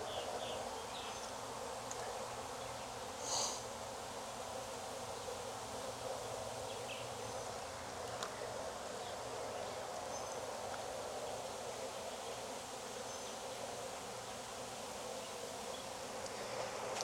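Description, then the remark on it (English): A dense, steady drone of many agitated bees buzzing around an open hive, continuous for the whole stretch with brief louder passes, and no voices. “And they were pissy. The pissy bees is a little too early to mean anything.”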